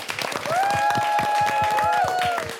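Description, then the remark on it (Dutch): Steady audience applause from the class 2E students of the Zweling College, with dense, rapid clapping throughout, a few cheers and whoops rising above it, and a long held whistle-like tone running through the middle. “En natuurlijk een heel groot applaus voor jezelf.”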